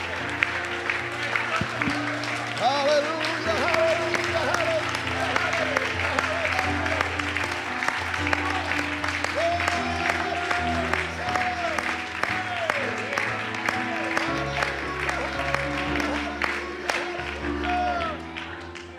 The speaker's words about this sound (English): Now would you clap your hands and shout unto God?